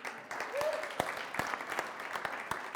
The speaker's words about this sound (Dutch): Graag een applaus voor mijn familie.